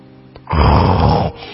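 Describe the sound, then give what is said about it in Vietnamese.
One loud, rough snore lasting under a second, heavy in the low end, from a wolf lying asleep, with no talking. “Bác nhìn vào thì thấy con chó sói đang nằm ngủ ngáy rất ngon.”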